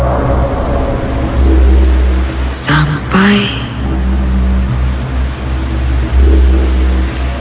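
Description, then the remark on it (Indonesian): A car speeds through heavy rain on Pasupati: a steady low engine rumble under a dense, constant hiss of rain, with a voice briefly speaking partway through. “Mobilku melaju kencang di derasnya hujan pasupati.”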